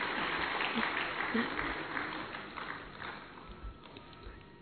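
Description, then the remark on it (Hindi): A large audience claps steadily for singers who welcomed everyone with a song, in a dense, continuous burst of applause that holds for several seconds and eases slightly toward the end, with faint crowd voices mixed in. “अरे तालियों की गति में छूट है, गाड़ियों की गति में नहीं, इसलिए जोरदार तालियां बजा सकते हैं।”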